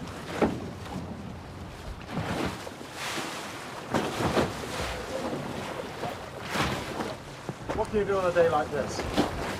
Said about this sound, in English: The next day, the rain has cleared, but the sea is very rough.